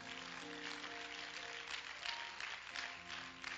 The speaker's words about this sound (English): Would you clap your hands to him again?